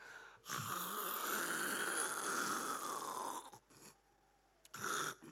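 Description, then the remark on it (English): A person imitates snoring: one long, loud, rasping snore-like breath, a brief pause, then a shorter snort. No other talking is heard. “He was sleeping and snoring. I could imagine him sleeping yakata.”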